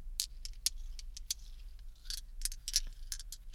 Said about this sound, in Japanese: じゃらじゃら。ガラス玉が擦り合わせ。